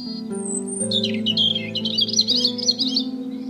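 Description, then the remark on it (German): A mother robin at her nest chirps and warbles to her chick in a quick, continuous run of bright, twittering notes, over a soft bed of sustained low musical tones. “Auf einmal kommt Mama Rotkehlchen angeflogen.”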